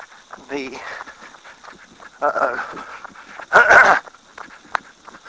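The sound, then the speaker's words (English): A dog gives a few whining, yelping calls, three separate bursts with the last one loudest, over faint background noise. “There's the dog, but he's being a good boy.”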